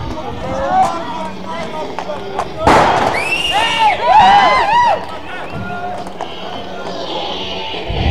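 Smoke bombs go off amid a noisy crowd: a sudden loud burst, then hissing and rising, warbling whistles that fade back into the crowd's murmur and shouting.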